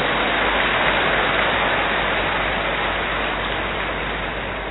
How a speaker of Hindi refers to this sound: इतना भी दादी ने किया, बहुत बहुत धन्यवाद दादी को, करो ताली बजाओ।